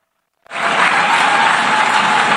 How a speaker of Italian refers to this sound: Tra i fischi e gli applausi della delegazione israeliana e dei tanti ospiti che lo stesso governo israeliano aveva invitato, Netanyahu ha iniziato a parlare